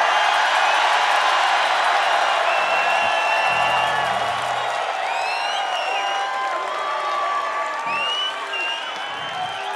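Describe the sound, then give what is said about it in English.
A large live crowd in Seattle roars with sustained cheering, whistles and high whoops over steady applause, loud and continuous for the full stretch, with no one speaking clearly. “If you call this a Seattle crowd, this has to be one of the better Seattle crowds.”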